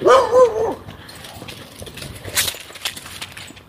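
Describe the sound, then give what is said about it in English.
A short run of sharp, high-pitched barks and yips from a couple of dogs sounds at the start, then fades into quieter outdoor background noise with a brief rustle, on a cold day. “I think this guy's got a couple of dogs.”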